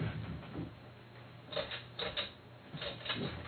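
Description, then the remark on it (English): A plastic CD case knocked and rattled around right by the speaker's feet, in a few uneven bursts of clacking, sharp and clattery, with a steady low hum underneath and no talking. “Okay, keep knocking that CD case around. It makes weird noises.”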